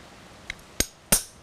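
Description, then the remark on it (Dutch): A hammer strikes a metal number punch to stamp a number into a small aluminium plate resting on concrete, three times in quick, uneven succession, each blow a sharp, bright metallic crack with a short ring, preceded by a lighter tap; no one speaks. “En dan is het gewoon de pen nemen, de hamer en je slaat er een nummer in.”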